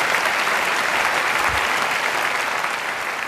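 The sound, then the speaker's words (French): A crowd applauds enthusiastically, a dense, steady roar of many hands clapping at once that holds at full strength for the whole stretch without letting up. “Et il est applaudi à tout rompre par la salle après avoir dit ça.”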